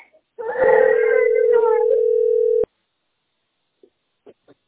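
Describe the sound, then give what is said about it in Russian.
A single long, steady ringback tone of an outgoing phone call sounds for about two seconds, with a child's wailing cry layered over it, then stops abruptly; a few faint brief sounds follow. “Звоню на тест.”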